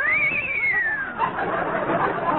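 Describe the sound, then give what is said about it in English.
A frightened horse lets out a shrill, high whinny that wavers and slides downward for about a second, then trails off into a rough, noisy clamor. The whinny is loud, with no talking. “The frightened whinny of our horses.”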